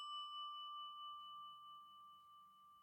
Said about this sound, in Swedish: Under spänd förväntan ringde vi på ringklockan.